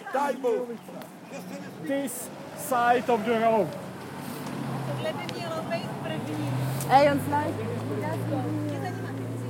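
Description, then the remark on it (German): Traffic noise from cars rushing past on a country road built by Roma prisoners, a low rushing rumble that swells in the second half, heard under people talking. “Auf der Landstraße, die die Gefangenen Roma gebaut haben, rauschen Autos entlang.”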